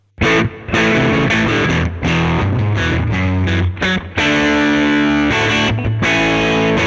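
A loud electric guitar plays rock chords and riffs through an overdriven amplifier at moderate gain and master settings, thick and gritty with a crunchy distorted tone, sustained notes broken by brief stops. No one speaks.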